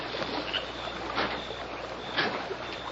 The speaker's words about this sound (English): It not sound like that. Sound like oar splash.